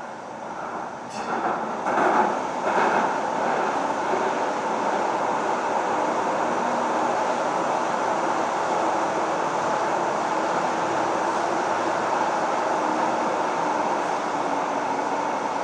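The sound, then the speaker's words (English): A passenger train, heard from aboard, rolls steadily along the rails with a loud, constant rumbling roar, a few clattering jolts near the start, then an even, unbroken ride noise with no voices. “which has usually a little bit of squealing on the rails, so I'll try and capture that, and that'll be it.”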